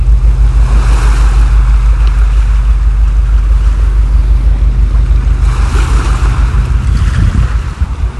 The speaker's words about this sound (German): Wenn es in der Dunkelheit schon kaum mehr auszumachen ist, verstärkt sich als Folge der Verdrängung des Wassers plötzlich die Brandung der Elbe. Wird lauter und scheint auch näher zu kommen.